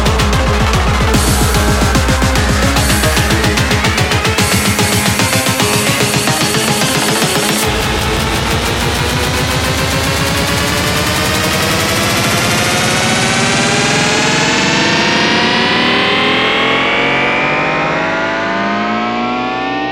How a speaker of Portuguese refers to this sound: Você já ouviu House? Você sabe que é uma pancada nervosa, aquela monstra, vai lá no fundo da cabeça.